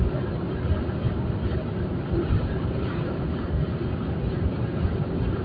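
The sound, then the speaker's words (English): A steady, low roaring rush of wind blowing outside that holds at an even loudness for several seconds, with a deep rumbling texture and no voices. “Anyway, boy, the wind's blowing out there.”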